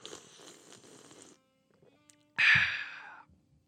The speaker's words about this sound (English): I'm going to take a drink of water here.